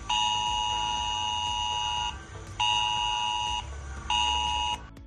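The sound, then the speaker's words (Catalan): A loud mobile phone emergency alert tone from Civil Protection, sent as a drill to phones across the Barcelona metropolitan area at 10 a.m. Steady harmonic pitches sound in three long bursts, about two seconds, then one second, then shorter, separated by brief gaps, with no voices. “I atenció, perquè a les 10 del matí 5 milions de persones de l'àrea metropolitana de Barcelona rebran al seu mòbil aquest so.”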